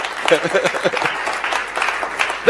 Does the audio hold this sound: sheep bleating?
no